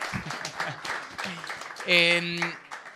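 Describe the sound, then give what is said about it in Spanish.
An audience claps steadily for about three seconds, a dense crackling patter, with a brief loud, high-pitched cheer or whoop rising over the applause partway through. “Ok, doble aplauso, por favor, para las güeras en tanga.”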